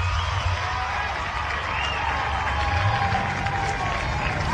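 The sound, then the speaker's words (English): A large baseball stadium crowd cheers and applauds a double play in a steady, loud roar that holds for several seconds, with a low rumble underneath and a few faint whistles rising above the noise. “Gives the crowd something to cheer about.”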